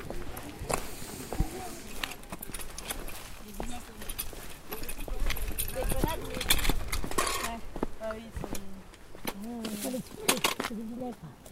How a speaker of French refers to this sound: Une petite bête, là. Des chèvres. C'était une chèvre du Rove. C'est une race spéciale. Spécifique ici.